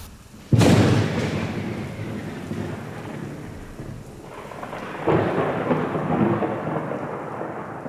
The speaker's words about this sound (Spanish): Sabe que le esperan eventos tempestuosos y esos pensamientos los remarca un rayo que cae sobre las montañas y es el abanderado de tormenta eléctrica.